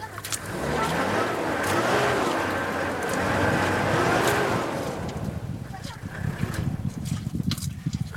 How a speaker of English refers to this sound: This is sound of getting stuck in the mud in Chad on the way to Gaga camp. By the time I started recording this, we'd been stuck in the mud for 2.5 hours.